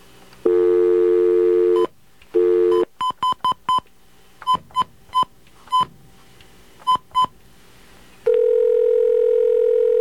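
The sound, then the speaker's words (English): A phone line plays a steady dial tone, then a rapid string of about ten short touch-tone beeps as the number of a Taco Bell restaurant is dialed, followed by a long continuous line tone. No voices are heard. “I went to their own website and found a phone number for one.”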